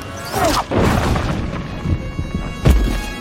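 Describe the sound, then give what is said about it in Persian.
A gunshot rings out loud, a sharp booming crack near the end, preceded by another heavy bang earlier over a steady rumbling background with no talking. “لعنت به تو بارتون، داشتم میگفتم فعلا تیر اندازی نکن”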